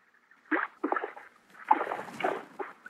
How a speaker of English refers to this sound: Oh, I hear it. I hear it. That's the water. That's the lake.